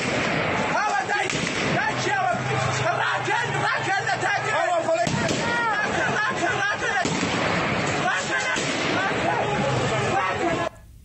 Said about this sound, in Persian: در واقع صدای دوشکا قشنگ در ویدیو شنیده میشد.